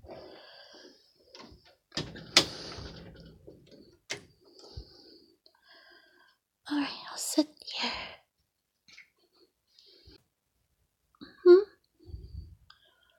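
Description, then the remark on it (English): A door thuds shut, followed by a few sharp metallic clicks of a lock being turned, with scattered quiet vocal sounds and rustling around them. “You want me to shut the door and lock it?”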